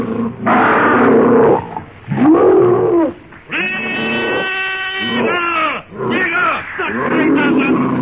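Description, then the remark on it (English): Two prehistoric ape monsters leaping from a pit and charging shriek and roar in a loud, harsh series of overlapping cries that swoop up and down in pitch, with one long, piercing, steady shriek in the middle. “With crooked fangs bared, wicked red eyes gleaming with rage, they shriek their blood-curdling challenge.”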